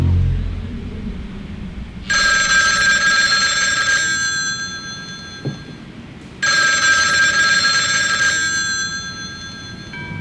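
A telephone bell rings in two long bursts of about two seconds each, separated by a pause, loud over a low background rumble with no one speaking.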